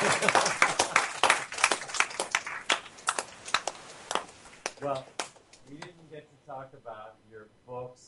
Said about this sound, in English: Are we able to clap now, or didn't we? We're at a place where we can clap each other?